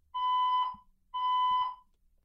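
An apartment's loud electronic fire alarm blares in two long, steady tonal beeps with a short gap between them, harsh and piercing, with a couple of faint thumps underneath and no talking.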